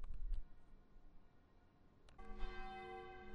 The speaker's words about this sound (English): Hi. You can hear the atmospheric effects here. The bells. I'm standing outside St. Botolph's Aldgate. In front of me is the great big tower of the church, going back to the 18th century.